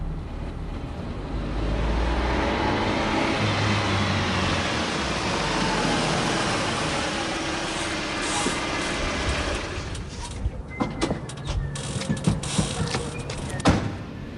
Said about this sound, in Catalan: A mesura que avançàvem, el renou del motor es va començar a mesclar amb un xiulet constant i agressiu. Era el vent, bufant amb força.